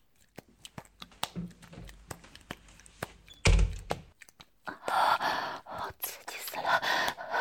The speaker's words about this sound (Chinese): 啊，你别进来了。啊，我关门了。